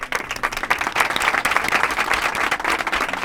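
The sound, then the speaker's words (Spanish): Sustained applause from students of the Colegio de la Salle in Alcoy, a dense, steady patter of many hands clapping at once, fairly loud and continuous throughout with no voices standing out, at the close of a programme. “Por favor, un aplauso.”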